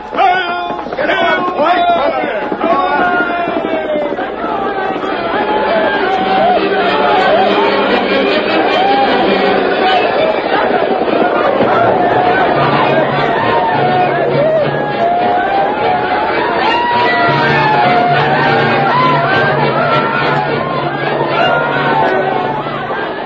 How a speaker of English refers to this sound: Quiet, listen. There they come. They can't hear you above their shouts, Geronimo. Here they come into the trap.